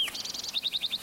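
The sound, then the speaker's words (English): A sparrow calls from a lodgepole at the edge of a meadow, about 25 to 30 feet off the ground, near a singing male. It sings a quick high-pitched phrase: a fast trill of about six notes, then five slower, rising chirps, clear and moderately loud against a quiet background. “Like it's sparrow number two.”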